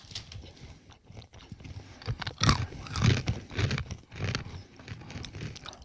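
Crunchy chewing of a sugar-coated cashew nut, with repeated irregular crunches and mouth sounds over several seconds, loud, with no talking.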